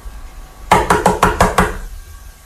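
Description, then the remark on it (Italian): Six quick, evenly spaced knocks on the door of Babborco's house, fairly loud, rapping out in a steady rhythm for about a second before quiet returns. No one speaks. “Poi va a casa di Babborco e bussa.”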